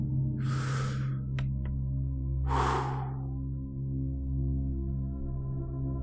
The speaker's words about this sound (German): Und wir atmen tief ein und wieder aus.